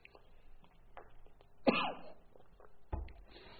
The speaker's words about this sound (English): I cough a lot, so you'll have to forgive me for hearing that throughout the class as well.